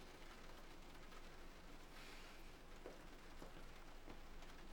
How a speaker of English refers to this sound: It's raining. Yeah, it's always raining. I'll go out when it stops.